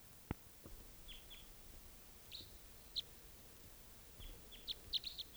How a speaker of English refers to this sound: I've got the decoys out, and they've been out for about in half an hour, and there's at least one wild bird here still.